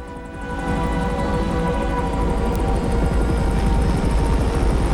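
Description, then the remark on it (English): A rescue helicopter's rotor thumps rapidly and steadily, the engine whine building in loudness as it lifts off at the scene of a crash, with no voices present. “At the scene of the crash, the rescue chopper is taking off.”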